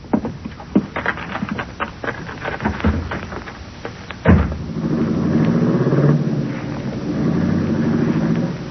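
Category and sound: vehicle, car driving away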